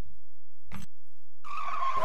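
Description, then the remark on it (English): A short thump is followed by a loud, rising screech of tires skidding on pavement, the squeal sustained with a steady high pitch and growing louder toward the end. “That's the sound cars make.”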